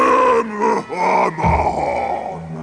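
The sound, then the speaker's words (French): A man's voice imitates a giant's roar, a long, deep, growling groan that swells and wavers in pitch, with a couple of brief catches for breath, loud and strained throughout. “Le géant entra dans la cuisine en rugissant.”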